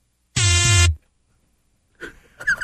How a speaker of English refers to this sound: You know it's good when it starts with like electric fart.